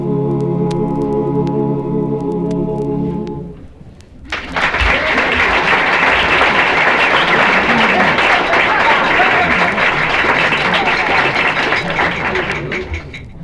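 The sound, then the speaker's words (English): A song's final sustained notes fade into silence, then an audience breaks into loud, sustained applause lasting about nine seconds, with a few light glass-tapping clinks near the start. “We noticed somebody tapping their glass there instead of applauding.”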